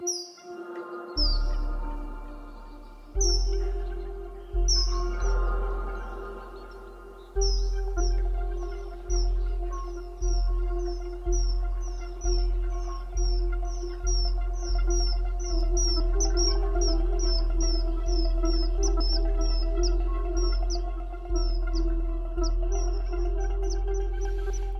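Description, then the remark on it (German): Quick, repeated bird chirps and tweets flutter throughout, layered over a steady, thumping low beat and sustained musical tones, like birdsong woven into an electronic pop track about climate change. “Vogelgezwitscher, also gegen die Klimakatastrophe.”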